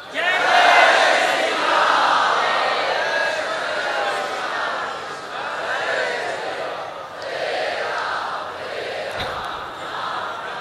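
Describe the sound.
A large crowd roars out chants of praise to Sri Ram at his coronation, a dense wall of many voices swelling and ebbing in waves, loud and continuous throughout.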